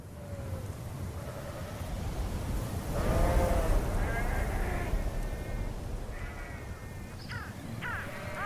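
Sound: sheep bleating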